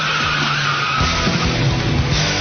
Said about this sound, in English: A key turns the ignition. A spark ignites the fuel. An accelerator encourages the engine.